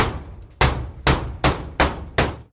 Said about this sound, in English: Here's a hammer, dear pirate, and here are some nails. Is this how I mend it, dear children, dear children? Is this how I mend it, the hole in my boat?